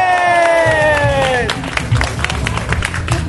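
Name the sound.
audience applause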